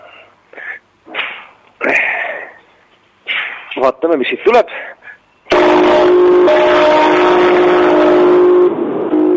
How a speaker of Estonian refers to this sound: Ja nüüd ma natukene katsun valjemat häält tekitada selle kellaga.